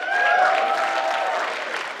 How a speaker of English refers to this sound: Put your hands together for the alpha male